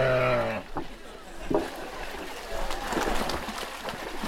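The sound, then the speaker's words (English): A full-fleeced, long-haired Cotswold sheep being washed in a sheep wash pool lets out one loud bleat at the start while shaking her head, then water splashes and sloshes around as she moves in the wash. “She's shaking her head and giving a bit of a shout, but the wool is getting a good soaking”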